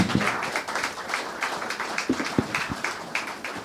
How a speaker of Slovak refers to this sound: Ja si myslím, že taký septembrový ešte jeden potlesk.